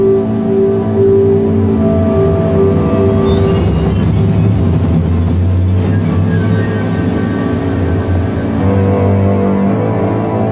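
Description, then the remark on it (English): A Ford Mercury's engine runs steadily throughout, a low, continuous rumble with a droning hum at an even loudness, with no voices. The car, specially adapted with a hidden exhaust pipe, pumps bacteria onto the streets of Manhattan, New York, in February 1956 during Operation Big City. “A Ford Mercury, specially adapted with a hidden exhaust pipe, pumped out bacteria onto the streets of Manhattan.”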